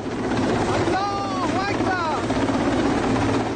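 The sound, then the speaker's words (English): A helicopter roars with a loud, steady rotor drone filling the whole stretch as masked troops rappel onto the deck of the British-flagged oil tanker Stena Impero during its seizure by Iran's Revolutionary Guards in the Gulf, while indistinct voices briefly rise over the noise partway through. “Troops wearing masks and carrying machine guns rappelled onto its deck from a helicopter.”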